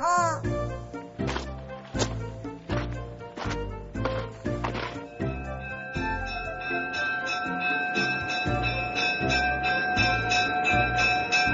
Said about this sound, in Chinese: 此时平交道上的警铃声开始响起